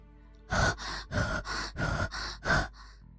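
Deep, heavy breathing close to the mic: about six loud, rasping breaths in a quick, steady rhythm, with no talking, then a fainter breath as it trails off.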